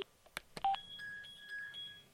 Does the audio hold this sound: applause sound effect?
no